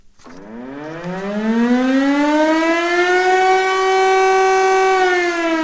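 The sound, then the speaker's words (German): A civil defense siren in Switzerland, sounded at 13:30 in the afternoon in a nationwide test of all the country's sirens by the federal government and the cantons, winds up from a low pitch, rising quickly and then holding a loud, steady wail with rich harmonics. No one speaks over the sustained tone. “Der Bund und die Kantone haben alle Sirenen im Land getestet.”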